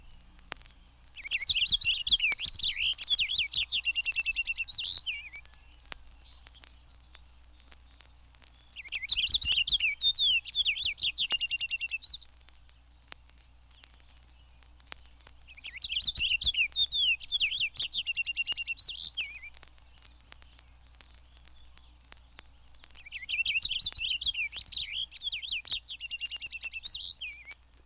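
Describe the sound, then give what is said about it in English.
A purple finch's rapid, continuous warbling song, delivered in four bright, tumbling phrases of about three seconds each with quiet gaps between, clear over a low steady hum. “The purple finch ranges south with the evergreens, but it is more common in the north woods, its song a continuous warble.”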